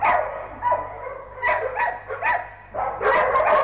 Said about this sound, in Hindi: रात में भौंकते हुए कुत्तों ने उनका राज खोल दिया।